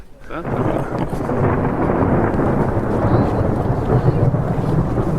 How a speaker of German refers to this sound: Großartig. Der Donner. Da ist er.